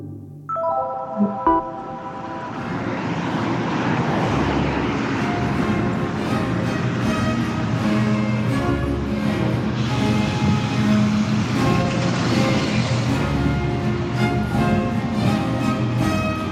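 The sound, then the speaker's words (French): Steady street traffic at a bus stop where a bus to Versailles is awaited: a continuous rumble of passing vehicles with droning engine tones, loud and unbroken throughout, with no voices. “Là, j'attends le bus pour Versailles.”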